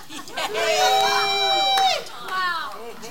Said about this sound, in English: What are you cheering for that for? What's wrong with you people?